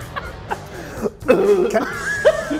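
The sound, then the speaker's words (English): A person who has just eaten a nacho chip coughs in a few short, sharp bursts, then gives a longer, strained, throaty hacking that sounds like choking. “I snuck one of those nacho chips I'm coughing on.”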